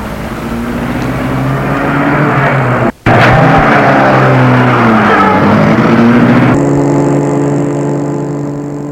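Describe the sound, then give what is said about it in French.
A loud car engine revs and runs steadily as a chauffeur starts the car and pulls away, its pitch rising and falling, with a brief cut partway through and a steadier drone at the end. “Puis, il met la voiture en route.”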